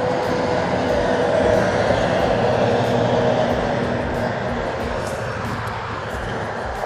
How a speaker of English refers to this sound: Sorry about all the noise, but I'm standing outside watching the cars drive past and stuff, man.